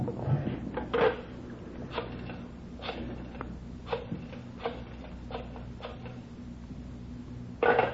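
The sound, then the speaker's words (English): A telephone is slid over and handled, with a series of evenly spaced mechanical clicks over a steady low hum, then it is let ring once as a signal: one short ring bursts out near the end. No voices. “You let her ring once. She knows the signal.”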